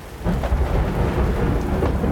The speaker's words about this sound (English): As I lay on the ground, I watched the storm develop. I remember hearing the thunder define the far reaches of the valley as the storm passed over me, drenching me.